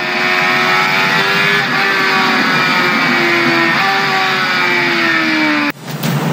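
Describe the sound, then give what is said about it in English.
A motorcycle engine runs loud, its buzzing harmonic drone wavering slightly in pitch as it holds revs, then cutting off abruptly near the end. No one speaks. “What's this hairy English guy doing on a motorbike?”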